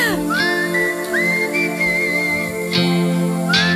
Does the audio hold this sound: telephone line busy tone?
no